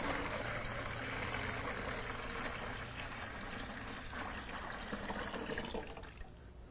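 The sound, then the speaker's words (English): Liquid pours steadily out of a bottle in one continuous, gurgling stream, moderately loud, thinning out near the end. No one speaks. “But you know, what he in effect did was take that royal color and he poured it all out this way.”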